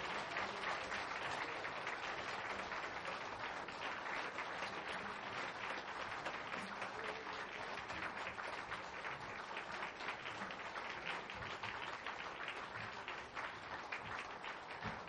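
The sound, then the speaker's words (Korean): A large church audience applauds steadily for the whole stretch to bless members of the eighth parish district as they go in, a dense, even wash of many hands clapping at once with no voices breaking through. “네, 우리 들어가실 때까지 뜨겁게 박수로 축복해 주시겠습니다.”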